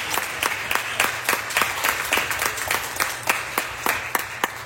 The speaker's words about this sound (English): Can we give God a hand clap of praise for that?